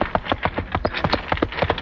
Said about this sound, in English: takes him to the police station in his old horse and wagon.